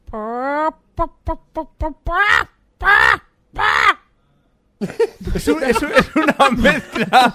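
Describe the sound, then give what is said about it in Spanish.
A person imitates a hen laying an egg: a rising squawk, a quick run of clucks, then two loud drawn-out cackles, followed by a burst of laughter and chatter from several people. “Esta una es gallina la... echando un huevo.”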